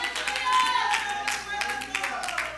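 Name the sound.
audience hand clapping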